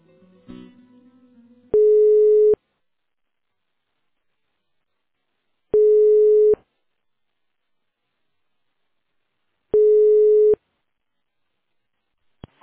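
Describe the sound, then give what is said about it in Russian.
A telephone line tone while a call to School No. 93 is transferred: three steady electronic beeps, each under a second, spaced about four seconds apart with silence between, after a brief rustle of handset noise. “Сейчас переключу вас.”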